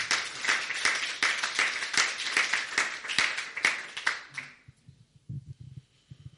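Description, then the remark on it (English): An audience applauds with dense, crackling clapping for about four seconds, then it fades out quickly, leaving a faint low murmur. “And I think Pavel deserves an applause.”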